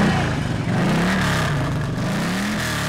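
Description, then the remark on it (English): A loud Harley motorcycle engine in Sturgis, South Dakota, rumbles with a deep growl rising and falling as it revs repeatedly over a steady idle, with no voices present. “Every year, the small Black Hills town of Sturgis, population 7,000, is bombarded with bikers riding loud Harley motorcycles.”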